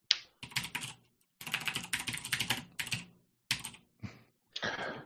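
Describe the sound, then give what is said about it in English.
Rapid clatter of keys on a computer keyboard, coming in bursts of quick taps with short pauses between them, fairly loud with no voices. “One would assume by the amount of typing that you are looking to see right now.”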